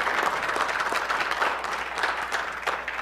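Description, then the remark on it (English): An audience applauding: steady, dense clapping from many hands that holds at an even, moderately loud level throughout, with no talking over it. “So we've got all kinds of clapping to do, all kinds of excitement.”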